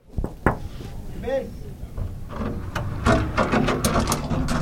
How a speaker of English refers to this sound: Sorry about my noisy door. Your door sounds fantastic. It's like in a haunted house.